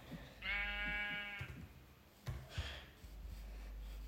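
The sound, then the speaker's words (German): A single sheep bleats once, a wavering, quavering cry lasting about a second, followed by a few soft thuds and shuffling noises. No one speaks. “Die Schafe nicht immer killen.”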